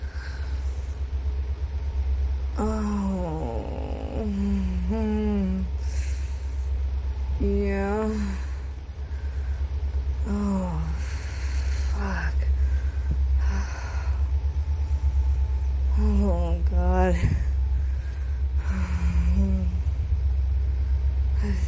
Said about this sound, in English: Getting interrupted by a train.